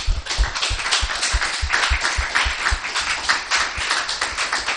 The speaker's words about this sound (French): Gloire à Dieu. C'est magnifique, non? On peut applaudir le Seigneur.